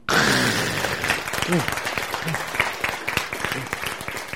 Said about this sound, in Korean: 박수.